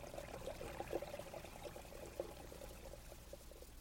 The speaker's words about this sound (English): Its rays reflected on the thousands of little streams that came falling down through the rocks.